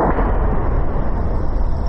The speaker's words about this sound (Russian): Так звучат авиабомбы на Авдеевском направлении.